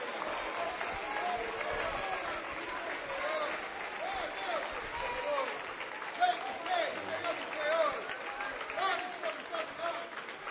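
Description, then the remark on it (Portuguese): An audience stands and applauds steadily for about ten seconds at a worship service. It is a dense, full wash of clapping, with excited voices calling out over it. “Você nunca ficaria em pé. Você nunca aplaudiria desse jeito.”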